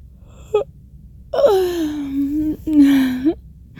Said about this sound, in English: Oh, speaking of which, there's the yawn.